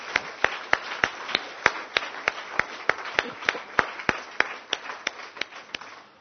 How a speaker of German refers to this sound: Ich denke, wir dürfen mal dem Lobpreisteam einen Applaus geben.